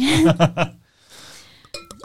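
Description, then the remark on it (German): A short burst of speech, then a soft, steady splashing of wine being poured into a glass at a wine tasting, ending with a few bright glassy clinks. “Darf ich ihn einschenken?”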